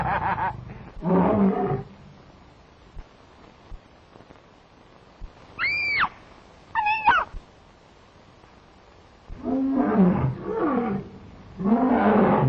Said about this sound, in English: God, aren't you a beauty? You can snarl all you like, old boy, but you're not going to get your claws on me.